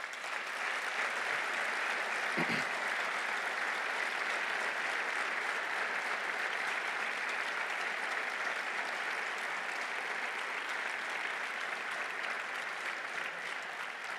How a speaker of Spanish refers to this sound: Gracias por poder contar con vosotros y un aplauso específico para todos vosotros.